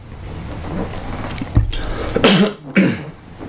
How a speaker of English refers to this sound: Excuse me, let me get that. Sit to clear my throat here.